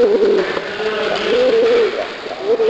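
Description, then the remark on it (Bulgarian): Razgrad pigeons cooing continuously, several overlapping soft, rolling coos with a steady murmuring rhythm and no talking. “Разградските гълъби всъщност са 4 вида, обяснява Георгиев, докато пернатите гукат наоколо.”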